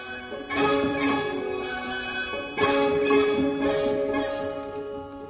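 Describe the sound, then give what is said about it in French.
Slow, resonant music imitating bells resounding in a valley: chiming tones struck in a few spaced clusters, each ringing out and overlapping as the sustained notes slowly fade, with no voices. “de cloches qui résonnent dans la vallée.”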